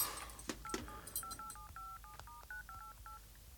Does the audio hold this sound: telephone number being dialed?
yes